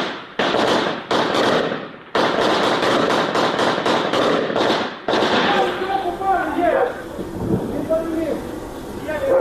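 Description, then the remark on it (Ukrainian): Loud, rapid bursts of gunfire crack out in quick succession, almost continuous at times, as men shoot at a Russian FPV drone that flew up to a net. The shooting keeps going as voices start shouting over it toward the end. “Намагаються відстрілюватися.”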